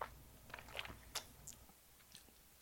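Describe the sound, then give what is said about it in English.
Someone takes a quiet sip of a grapefruit hard seltzer with 4% alcohol, a few soft wet slurps and mouth clicks spread over a couple of seconds against a low background hum, no talking. “Sips.”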